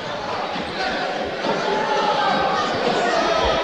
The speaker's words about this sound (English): gets a big cheer from the cheering, the student section, as he draws another foul.